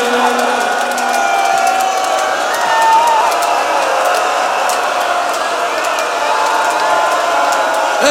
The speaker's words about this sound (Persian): جانم ای جانم به این گریه ها